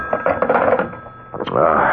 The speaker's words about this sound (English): Oh, it's a phone.